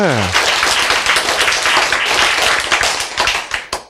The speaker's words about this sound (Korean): 예, 감동 아닙니까? 예, 박수 한번 칩시다.